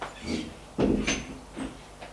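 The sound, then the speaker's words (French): A brown wooden door in a gendarmerie building opens with a solid clunk, followed by a few softer knocks and shuffling movements as people come through into a room, with no talking. “Ils entrent.”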